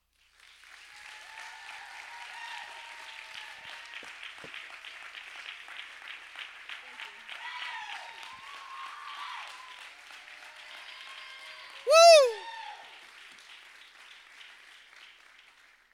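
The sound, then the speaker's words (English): Steady, sustained applause from an audience fills about fifteen seconds, with faint cheering voices mixed in and one loud, downward-sliding whoop piercing through near the end before the clapping tapers off. “I haven't even said anything and there's applause.”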